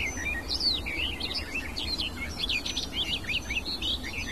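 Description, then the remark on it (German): A songbird sings a hurried, varied song of warbling phrases and chirps, weaving in mimicked calls of other birds, some sounding a bit like a blackbird, carrying on continuously over a low background rumble with no voices. “Und auch sie streut Imitationen mit rein.”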